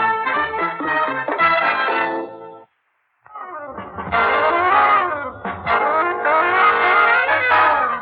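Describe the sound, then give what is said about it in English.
A car engine roars in two loud bursts split by a brief silence, the second revving up with rising, wavering pitch as a car comes up from behind on a flat straight road. No one speaks. “I think there's a car behind us.”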